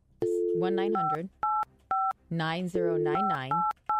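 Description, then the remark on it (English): A string of short touch-tone beeps from a phone keypad as a 1-900 number is dialed, pressed one at a time in an uneven rhythm, with voices speaking loudly over and between the dial tones. “We should call.”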